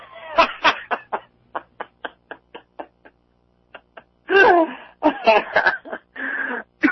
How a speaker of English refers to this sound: Oh, man, you made me cough.